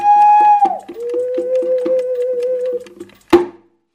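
Steady, evenly spaced clock ticks repeat over a sustained humming tone that drops in pitch partway through, ending with one sharp, louder clack before silence.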